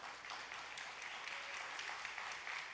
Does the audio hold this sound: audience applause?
yes